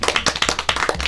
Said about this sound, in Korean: 네, 박수.